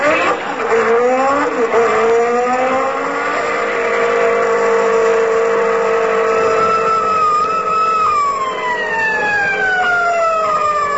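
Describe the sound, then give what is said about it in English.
A car's loud engine roars steadily at high speed, 42 miles an hour in a 20-mile zone, its pitch climbing and bending, with a siren-like wail layered over the continuous motor noise. No one speaks. “42 miles an hour in a 20-mile zone”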